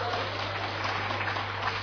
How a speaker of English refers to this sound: Round of applause